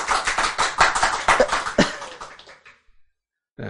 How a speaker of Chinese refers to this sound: 赞不赞？ 赞！ 拍手。